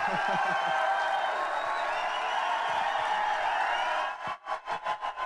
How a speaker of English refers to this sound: Ah, yes, that was the enthusiastic crowd. I might well have been amongst them, among them, at Vicar Street